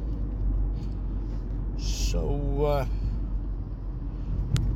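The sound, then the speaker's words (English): A steady low rumble of a car engine and road noise in bumper-to-bumper traffic on Long Island fills the whole stretch, with a brief voiced utterance and a breathy hiss rising over it midway. “I'm in pretty much bumper-to-bumper traffic now.”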